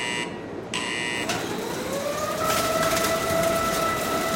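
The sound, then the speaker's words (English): A loud custom-built industrial baling machine at a mattress recycling operation runs steadily, compressing steel mattress spring cages strung into trains 12 beds long into 250-pound bales; its broad mechanical roar is topped by high metallic tones and a whine that rises in pitch as the springs are crushed together. “They're strung together into trains, 12 beds long, and fed into a custom-built baling machine.”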